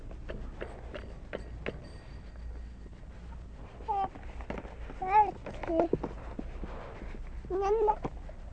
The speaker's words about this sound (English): You want to see the kitties again? Nice kitties.